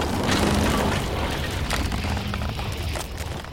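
A bridge, just crossed by a train, collapses into the river below with a deep, roaring rumble and scattered cracks and splashes, staying loud and steady for a few seconds before easing slightly. No voices.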